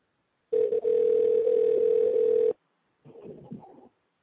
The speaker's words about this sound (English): I'm still not good at this with this thing with Skype, so we're going to give it a shot. And let's see if we can get him on. It's ringing. It worked.